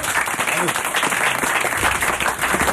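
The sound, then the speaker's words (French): A crowd claps loudly and steadily for the whole stretch, dense overlapping applause with some faint voices mixed in underneath, applauding a contest winner. “et on l'applaudit très fort.”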